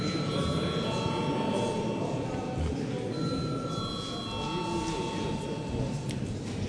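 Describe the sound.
A parliament chamber bell, rung to call a vote on a draft decision electing a deputy to the Economic Affairs Committee, rings steadily for several seconds, its sustained, high metallic tones running continuously over a dense background murmur of voices.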